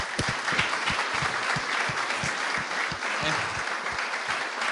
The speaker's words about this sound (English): Can we give him a round of applause?